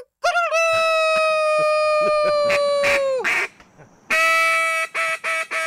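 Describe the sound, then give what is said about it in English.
A loud duck call horn, played by a man, blares one long nasal, buzzy note, then after a brief pause sounds a quick run of short quacking blasts, with no talking. “He's got a duck horn or a thingamajiggy.”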